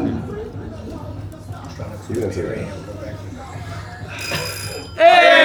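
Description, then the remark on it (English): A telephone bell rings loudly near the end, sharp and metallic, cutting in after a brief earlier burst of ringing over a background of people chatting. “Straight time, saved by the bell.”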